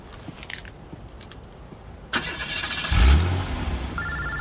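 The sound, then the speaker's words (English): A car engine cranks and catches about two seconds in, then settles into a steady idle with a brief rev as the car is warmed up, with faint outdoor ambience before it starts. “Okay, I'm gonna go warm up the car.”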